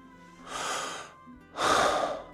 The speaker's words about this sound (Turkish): Şimdi bak, bir nefes alıp verdik ya.